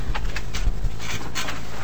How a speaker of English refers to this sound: And as we continue shuffling papers here, next up,